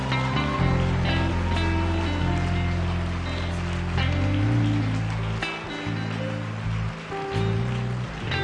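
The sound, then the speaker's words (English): A dense, steady wash of audience applause, many hands clapping at once for several seconds, with a murmur of crowd voices or cheering mixed underneath and a couple of brief dips in volume, applauding the men who come forward to the altar. “They ought to hear some applause.”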